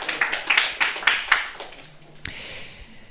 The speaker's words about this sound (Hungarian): Oké, nagy tapsot kérünk